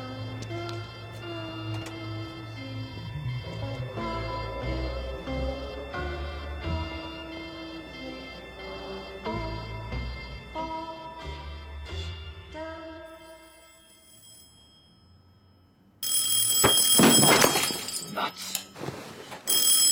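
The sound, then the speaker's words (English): A telephone rings repeatedly in the middle of the night with a steady tonal trill, then after a brief lull a lamp suddenly smashes with a loud crash of breaking glass and clattering debris. “Phone rings and a lamp smashes.”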